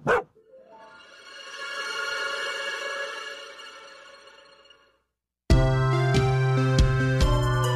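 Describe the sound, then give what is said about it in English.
A dog gives one sharp bark and then a long, drawn-out cry lasting several seconds, with no talking. After a short silence, music starts. “What are you barking at, boy?”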